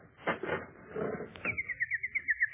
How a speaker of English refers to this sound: Do you hear? Listen. My little nightingale. She's come back to me.